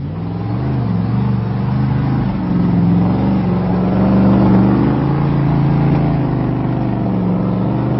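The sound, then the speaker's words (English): A heavy monster truck engine roars steadily, its deep low rumble swelling and holding as it revs, loud and continuous throughout with no talking. “I'll tell you what I'm thinking about. It's a monster truck.”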